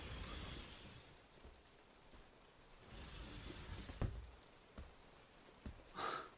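Steady rain falls in a soft, continuous wash at nightfall, just after night has begun, with a few sharper drips and taps breaking through now and then. It stays fairly quiet and even throughout, with no voices.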